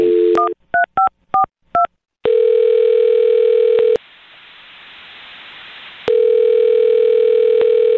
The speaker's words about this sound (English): All right, I'm going to dial his phone number right now and see if we can figure it out for you. Here we go.